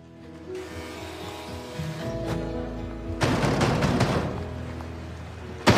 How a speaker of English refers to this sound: Hey, yeah, stop all that banging. I heard you the first time banging on the door.